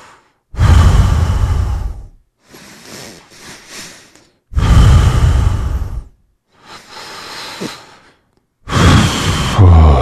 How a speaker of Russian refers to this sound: Это как примерно, примерно что? Спокойное дыхание.